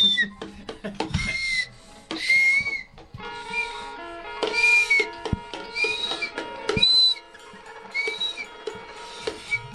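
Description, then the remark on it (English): A shrill, very high-pitched whistle sounds in a series of short bursts, some sliding slightly in pitch, fairly loud, with clattering, mixed background sounds between the blasts. “This is a whistle. It's a very high-pitched whistle.”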